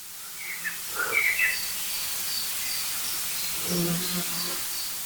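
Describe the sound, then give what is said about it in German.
A blackbird gives a few short, sharp alarm calls early on, with other faint bird chirps joining over a steady hiss of outdoor background noise. “Die Amsel war aber super nervös. Es kamen noch andere Vögel hinzu.”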